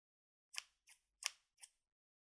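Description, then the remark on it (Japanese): Four crisp snips of scissors cutting through clothing to remove it from someone whose hands and feet are tied. Each snip is a quick sharp crunch, spaced about a third of a second apart, with silence around them and no voices. “服をハサミで切って脱がせるの。”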